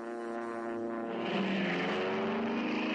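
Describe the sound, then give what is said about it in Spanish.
A propeller plane drones overhead with a steady buzzing engine hum that swells louder as it approaches and then holds, its pitch bending slightly as it passes. No voices. “Sobre la práctica, esto implicaba que los aviones estadounidenses podían utilizar Cuba para repostar en sus misiones por el Caribe.”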